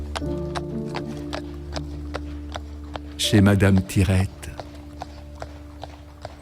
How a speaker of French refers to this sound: Oh, j'étais heureux, le store, l'été, les bruits ensoleillés de la rue, avec l'odeur de la ratatouille qui mijotait, les ritournelles des maçons ou des peintres, les pas des chevaux aussi, le store.